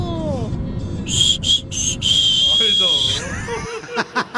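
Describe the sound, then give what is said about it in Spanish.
A person whistles a short family-call pattern, the whistle a mother uses to wake her children in the morning: a few quick high notes followed by one longer sustained tone, heard over a murmur of voices and background noise, with speech continuing afterward. “¿Cuál es el silbido que identifica a su familia?”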